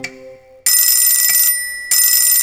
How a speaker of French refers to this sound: Mon réveil matin insiste, et moi je résiste.